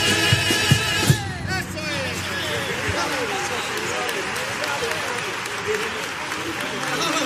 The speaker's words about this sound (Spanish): Veíamos ahí en imagen, ¿no?, el aplauso del autor a su coro